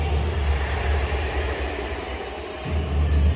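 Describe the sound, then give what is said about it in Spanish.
A stadium crowd boos and whistles at Kylian Mbappé as he is announced in the Paris Saint-Germain lineup, in one loud, unbroken roar that stays heavy and dense throughout, then swells slightly near the end. “Pito y abucheo.”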